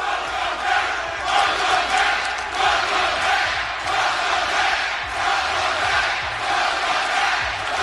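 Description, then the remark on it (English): A large crowd chants in unison, a loud, steady roar of many voices with a rhythmic swell and fall that carries on throughout, no single voice standing out. “what a great chant.”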